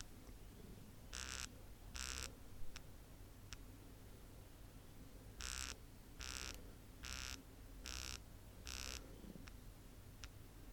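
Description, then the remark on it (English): A smartwatch buzzes out the time in haptic pulses, each long buzz standing for a group of five: two long buzzes and two short taps, a pause, then five long buzzes and two more short taps, steady with no talking. “Okay, so remember this time with the groups of five, the long buzz, so to make up 20, it had to do four pulses.”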